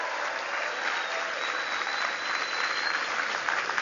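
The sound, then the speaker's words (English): A large audience in New Hampshire claps steadily for Paul Hodes, a dense, continuous wash of applause that stays fairly loud and even throughout, with no voices standing out. “Give Paul a big round of applause.”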